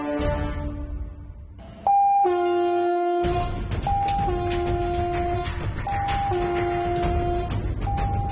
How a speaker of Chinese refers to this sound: 警报是平台上每个人最害怕的声音。